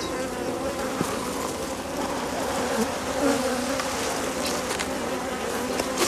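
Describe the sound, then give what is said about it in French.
A dense, steady drone of about 2500 honeybees buzzing on an open hive frame in Vitry-en-Artois, France, a continuous swarming hum with faint crackles and no voices. “Donc sur un cadre il y a à peu près 2500 abeilles.”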